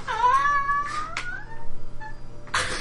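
An adult female cat, Boss, lets out a long, drawn-out meow that rises and wavers, followed by a brief softer mew, with a few short rustling noises and no talking.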